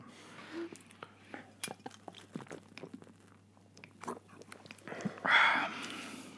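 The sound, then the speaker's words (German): Glass bottles clink together in a toast, with a scatter of small knocks and taps leading up to one brighter, ringing clink near the end, fairly quiet. “Stößchen. Prost.”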